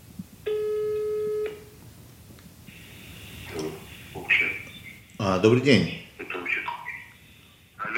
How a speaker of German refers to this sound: tippt in sein Notebook, wählt eine neue Nummer und startet den Anruf. Es klingelt lange.